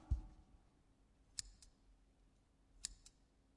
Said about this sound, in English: Scissors. Excellent. Yes, pair of scissors.